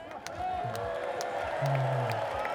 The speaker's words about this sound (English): so guys, this is the crowd.